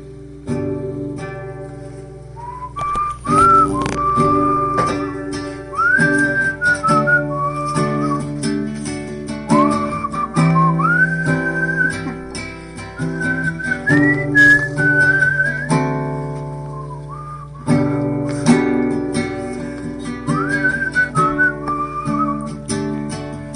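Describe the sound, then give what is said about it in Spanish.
Someone whistles a song melody in a clear, bright tone, the tune rising and falling in sustained phrases over a steady backing of instruments, loud throughout. “Se la sabe, no crean que está chiflando porque no se la sabe.”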